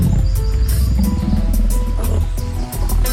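Deep, rumbling roars and growls from hungry wild predators such as bears, leopards and jackals in the hills of Bethlehem, loud, overlapping continuously with throaty snarls and no speech.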